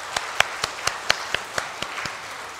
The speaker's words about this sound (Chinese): 我想我们大家也是和我一样非常的享受我们刚才大朋友和小朋友带给我们的敬拜，我们给他们一个掌声好不好？